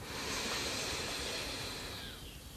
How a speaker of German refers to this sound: Nimm den dritten tiefen Atemzug und atmen ein.